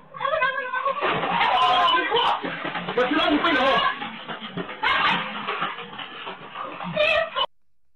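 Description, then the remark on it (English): A jealous dog whines insistently, high, wavering cries rising and falling in a near-continuous run for several seconds, broken by brief breathy pauses before it stops abruptly. “This dog's jealous too.”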